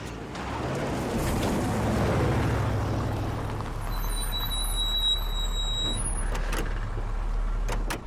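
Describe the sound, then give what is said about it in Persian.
A car engine left running idles with a steady, low rumble that runs the whole time, joined midway by faint high-pitched whines and a couple of sharp clicks near the end. “ماشین رو روشن بذار.”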